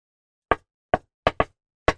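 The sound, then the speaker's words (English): Five sharp knocks rap on a wooden office door, Commissioner Jim Gordon's office at the GCPD in the story, in an uneven rhythm: a pause and then a quick double rap before a final knock, clear with no voices. “There's a knock at his office door, and Jim looks up to see an unfamiliar man standing in the bullpen of the GCPD.”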